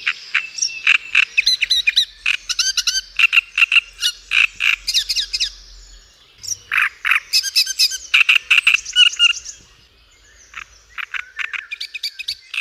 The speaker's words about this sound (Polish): No, posłuchajcie trzciniaka. Nazwa jest stąd, słuchajcie, że właśnie on zamieszkuje trzcinowiska. O, zobaczcie, tak wygląda. Słuchamy teraz trzciniaka. Taki, zobaczcie, niepozorny, brązowy ptak, ale ma bardzo donośny głos